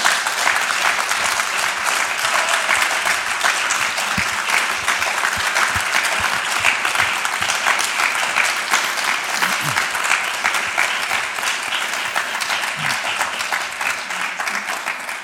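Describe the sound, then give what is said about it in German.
Loud, sustained applause from a crowd for the CG Heimberg church community, a dense rush of clapping that holds steady for about fifteen seconds and eases off slightly at the end, with no voices standing out. “Ein herzliches Merci und lasst uns doch Ihnen allen da mal einen ganz kräftigen Applaus geben.”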